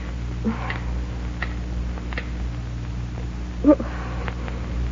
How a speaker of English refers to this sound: The clock stopped.